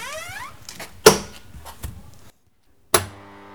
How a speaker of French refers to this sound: Il me reste lancé, donc il faut que je ferme la porte.